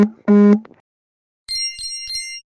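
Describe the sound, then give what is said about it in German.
A WhatsApp message notification on a phone: a short low buzzy tone of the phone vibrating as the message arrives, then a bright, clear chime ringing three quick times. “Nee, lass ruhig drin da den WhatsApp-Sound-Benachrichtigung da.”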